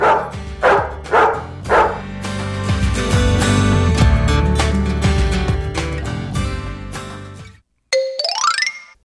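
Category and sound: animal, dog barking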